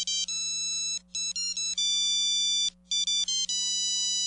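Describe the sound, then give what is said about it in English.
A polyphonic ringtone version of a soft song plays a gentle, slow melody in bright electronic tones, sustained notes grouped into short phrases with brief pauses, over a faint steady low hum. “Maybe something lighter would work, like the … song ….”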